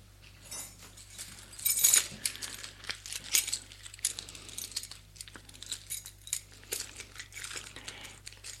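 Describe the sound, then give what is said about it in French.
A bunch of keys jangles as a key ring is opened to unlock a grille gate at the bottom of a marble staircase, with bright metallic clinks coming in irregular bursts over several seconds, against a faint low hum and no voices. “Et en bas des escaliers, il y a une porte grillagée. Georges ouvre son trousseau.”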